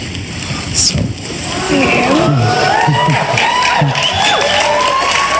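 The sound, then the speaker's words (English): A large crowd cheers and claps, many voices whooping and shouting over one another; the noise swells after the first second and stays loud and sustained to the end. “Who claps unless somebody pointed a gun at him and made him?”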